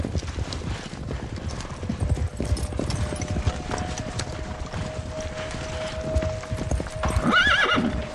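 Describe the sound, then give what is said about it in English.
Horses ride at a brisk pace across a valley on the way back to Capernaum, hooves clip-clopping in a dense, rapid rhythm throughout, with a high whinny near the end and a faint steady tone running underneath. “But when it was dry, you could make, fast pace here on the, as they're doing here, riding across this valley on the way back to Capernaum.”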